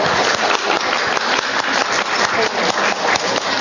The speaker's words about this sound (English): I really want to give our wonderful Gold Rush puppy raisers here in Sacramento are just an awesome bunch of people, the nicest people you'll ever meet. And I want to give them a huge round of applause for all their hard work for us.